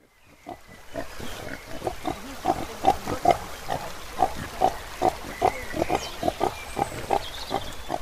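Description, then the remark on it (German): Pigs grunting on a farm on the bank of the Nolichucky River in eastern Tennessee, a steady stream of short, rhythmic grunts about twice a second, moderately loud, with a faint background of other farmyard noise and no talking. “Diese, fast hätte ich gesagt, schweinische Idylle finden wir am Ufer des Nolichucky River im Osten von Tennessee.”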